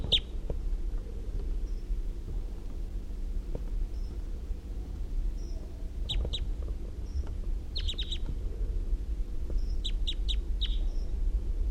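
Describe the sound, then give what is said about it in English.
A male wild bird calls from the trees in response to playback, with short, sharp high-pitched chirps, some in quick clusters of three or four, over a steady low background hum; faint thin whistles appear between the bursts. “The male. Recording the male again.”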